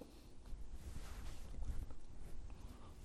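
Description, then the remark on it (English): A steady, airy whoosh with a low rumble underneath from an exhaust fan switched on with a window cracked open, fairly faint and continuous with slight fluctuations and no voices. “can you crack that window and turn on the exhaust fan?”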